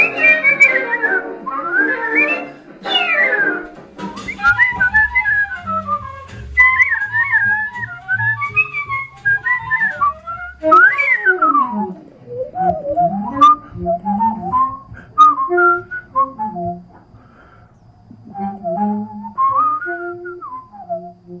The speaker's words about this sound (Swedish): visslar till kända och okända jazzsolon.